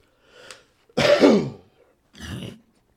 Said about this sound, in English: I got a cough. Boy, I just got over the flu too, so.